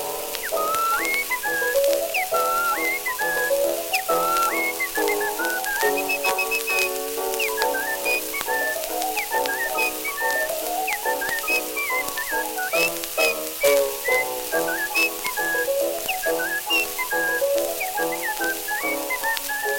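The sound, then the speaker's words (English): A person whistles a bouncy melody nonstop for about twenty seconds, the notes stepping up and down in a lively rhythm, steady and fairly loud over a faint crackling hiss, with no talking. “But it made him dancing proud when he'd whistle out so loud. And this was his old familiar tune.”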